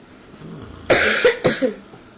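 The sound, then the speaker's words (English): A person coughs twice in quick succession, two harsh bursts about half a second apart, with no talking around them. “But I mean, we should be coughing.”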